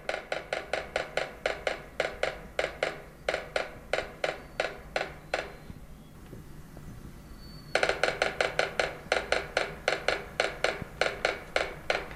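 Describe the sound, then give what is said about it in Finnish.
A sapsucker, recorded in Canada on 15 May 2010, drums on a tree as a territorial display: sharp, dry wooden taps in uneven clusters of two or three, stopping briefly midway before the same stuttering pattern resumes, loud and clear without any voices. “Ja se koittaa saadaan jonkunlaista reikää, tai tässä on ilmeisesti niin kuin soidin naputusta, että se ilmoittaa muille, että tässä on mun reviirini.”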